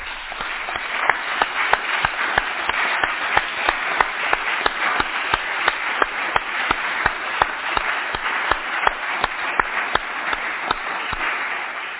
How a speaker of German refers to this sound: Recht herzlichen Dank und ich glaube, da haben wir jetzt einmal einen riesen Applaus verdient.